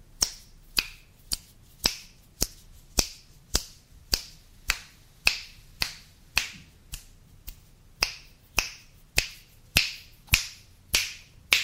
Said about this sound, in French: Voilà, des claquements de doigts qui partent de l'oreille droite à au-dessus de la tête jusqu'à l'oreille gauche, c'est impressionnant, d'immersion.